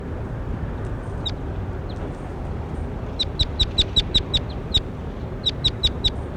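bird calling

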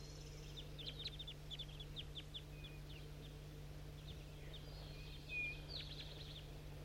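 wild birds calling

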